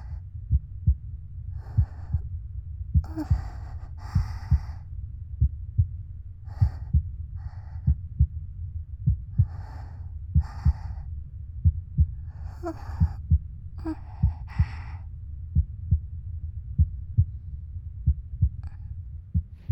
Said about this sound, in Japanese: こんな風に自分の心臓の音を誰かに聞いてもらえるのってすごく気持ちがいい。心臓の音が速い？そりゃそうだよ。